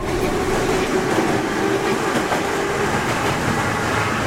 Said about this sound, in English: The Moscow Metro. Glorious, efficient, cheap. The former is certainly a public perception of the transport system that, the vast majority of the time, still successfully carries 7 million people about the Russian capital every day.